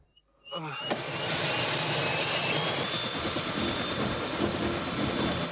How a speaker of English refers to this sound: Lau salutes as Yin arrives by the chopper.